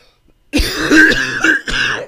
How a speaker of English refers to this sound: He calls an audible, and it goes a little something like this. 1 cough. I need an answer. 2 coughs. Please double check my answer. 3 coughs.